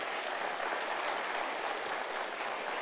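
An audience claps together to thank the church team who led during the interim time, a dense, steady wash of applause that holds an even loudness for about three seconds, with no voices standing out above it.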